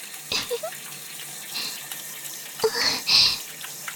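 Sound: shower water spraying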